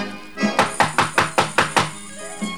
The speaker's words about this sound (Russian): Стучи, открою дверь и все узнаем.